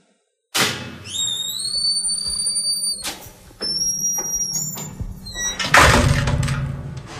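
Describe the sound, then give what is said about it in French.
A heavy metal door in a prison grinds open for people waiting in a corridor leading to the youth detention area, starting with a sharp clank and followed by high, screeching metallic squeals, further knocks, and a loud final clang over a low mechanical rumble. “On attend qu'on nous ouvre la porte, là.”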